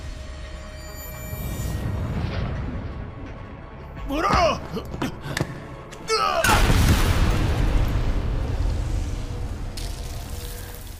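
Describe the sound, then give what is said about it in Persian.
Two sharp explosive blasts from video game cans, which explode when struck hard, the second louder and followed by a rumbling tail, over a steady low game hum, with a voice shouting briefly between them. “قوطی ها وقتی تحت ضربه های شدید قرار بگیرند منفجر می شوند.”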